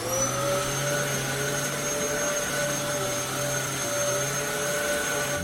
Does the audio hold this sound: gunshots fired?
no